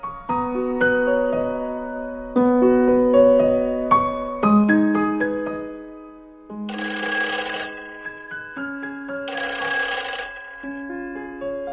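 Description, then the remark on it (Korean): A phone rings with a bright, melodic ringtone of stepping notes, broken by two bursts of shrill, buzzing bell ringing near the end. It is clear, with no voices. It is an incoming call from the speaker's mother. “아이와 함께 행복한 하루하루를 보내고 있던 어느 날 어머니에게서 전화가 왔다.”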